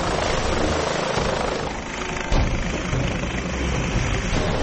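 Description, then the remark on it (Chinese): A police helicopter, call sign Fairfax One, lifts off, its engine and rotor roaring loudly and steadily, a dense rushing wash of noise with a brief surge partway through as it lifts. “呼号为费尔法克斯一号 （Fairfax One） 的警察直升机开始升空。”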